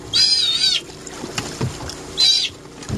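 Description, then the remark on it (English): A sea otter, being captured in spring near the village of Cake to be tagged and fitted with a radio transmitter, lets out two loud, shrill, wavering squeals, one long and one shorter, over a low rumble of water and boat noise. “That's a sea otter being captured last spring near the village of Cake.”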